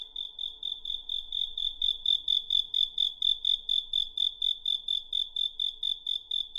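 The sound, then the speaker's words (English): Caged crickets, of the kind sold in spherical bamboo cages in Beijing in summer, chirp in a steady, rapid pulsing trill, loud, continuing without pause throughout with no voices present. “In Beijing, crickets are still sold in spherical bamboo cages in the summer.”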